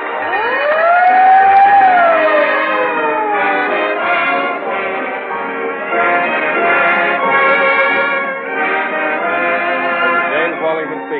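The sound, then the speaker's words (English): A loud siren wails up and then falls away, followed by a sustained, dense ringing clang like a bell sounding along with it, continuous with no voices. “In the meantime, whenever you hear the siren and bell, think of Fire Chief, the emergency-type gasoline”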